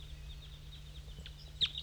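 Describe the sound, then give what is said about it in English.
A wild bird sings from a dead pine in faint, high, thin chirps, scattered with one brighter note near the end, over a steady low hum and no voices. “There's a wild bird still up in the dead pine singing.”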